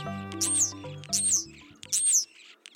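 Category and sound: bird, european starling calls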